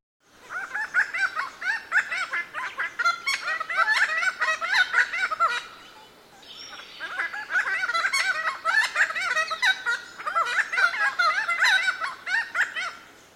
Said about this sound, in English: And here's a duet. One bird begins with a simple repeated motif, then the second bird joins in with a more complex phrase.